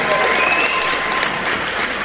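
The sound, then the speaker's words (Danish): A live audience claps steadily and loudly for about two seconds for the event's moderator and host, a dense wash of many hands with faint cheering mixed in. “Skal vi ikke lige klappe ham en gang?”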